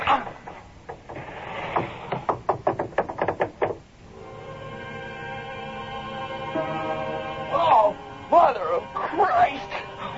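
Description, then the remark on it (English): A rapid series of heavy wooden thumps and knocks as two people shove and force open a door with something wedged behind it, giving way to a sustained groaning tone, followed by brief agitated voices. “open the door! I can't! There's something wedged behind it.”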